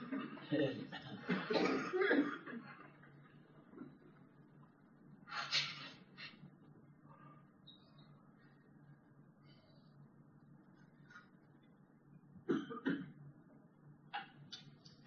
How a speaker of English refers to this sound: Anybody that's trying to cough, try twice as hard now to keep Papa from going away. Well, you can try harder than that.